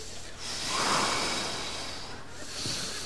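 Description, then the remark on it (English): Two long, slow, deliberate breaths of Lamaze breathing practice, each a breathy, airy whoosh rising and fading in a steady, measured rhythm with no talking. “Why are we breathing? Lamaze.”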